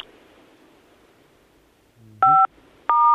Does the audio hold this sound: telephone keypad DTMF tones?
yes